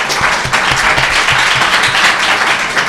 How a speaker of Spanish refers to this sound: Pero es correcto, un aplauso.